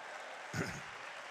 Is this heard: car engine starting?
no